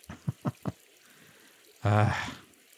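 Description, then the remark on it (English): Four quick splashes of bathwater, splashed at a clothed person, in a rapid, uneven burst, followed after a pause by a short voiced exclamation from a person. “Hey, quit splashing me with your bathwater.”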